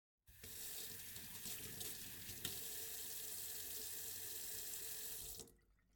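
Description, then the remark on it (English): A tap runs steadily for about five seconds as hands are washed, a broad hissing rush of water into a sink, with a brief splash partway through, then it shuts off. No one speaks. “Wash your hands. Food safety. Wash.”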